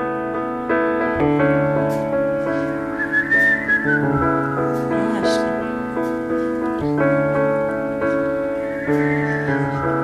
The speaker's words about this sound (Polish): urozmaiciła ten jazzowy wieczór, gwiżdżąc ze słuchaczami. Publiczność się sprawdziła, bo miałam obawy, pomyślałam sobie, to jest taka wyselekcjonowana publiczność. Świetnie wszyscy gwizdali.